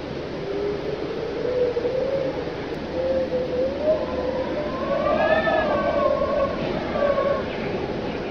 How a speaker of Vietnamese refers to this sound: Tối qua, chúng tôi dựng lều mới trên bãi biển. Nhưng khi trời gần sáng thì giật mình thức giấc vì cơn gió hú từ vịnh Sonoma.